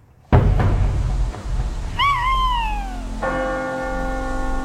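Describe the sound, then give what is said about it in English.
A single wavering owl hoot glides downward in pitch, set between a loud opening clang and a sustained ringing bell tone, over a steady low rumble. “If that owl doesn't shut up, I'll strangle it.”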